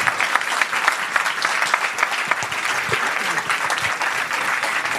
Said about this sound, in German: Und das sind heute Abend der OB Jörg Lukart, Stadtoberhaupt, trifft Cheftrainer vom VfL Uwe Rösler. Applaus, Applaus!